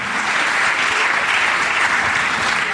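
Steady, dense applause from a crowd, a continuous wash of many hands clapping at even loudness for the whole stretch, with no voices standing out.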